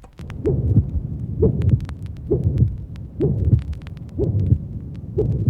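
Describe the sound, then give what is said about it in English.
A loud, harsh systolic heart murmur with a musical, honking tone, repeating steadily with each of about six or seven heartbeats, low-pitched throbs alternating with brief pauses. “In the first illustration, you will easily hear a loud, harsh, musical systolic murmur.”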